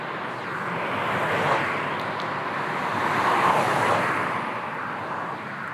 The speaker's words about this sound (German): Achtung, hier ist manchmal ganz schön viel Verkehr. Also pass gut auf, wenn du jetzt über die Straße gehst.